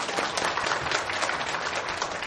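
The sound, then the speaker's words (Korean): A crowd breaks into steady, dense applause of encouragement, many hands clapping together in a sustained wash of sound that holds at an even level for the whole moment, with no talking over it. “우리 그래도 격려의 박수 한번 쳐드릴까요?”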